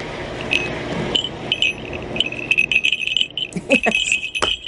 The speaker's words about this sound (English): Ryan has provided us with a sound effect of a Hawking Bell, and here it is.